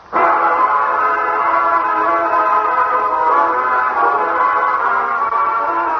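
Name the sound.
train passing with whistle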